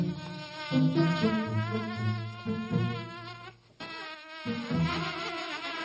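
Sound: buzzing insects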